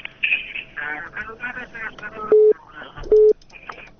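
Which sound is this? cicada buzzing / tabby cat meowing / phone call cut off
phone call cut off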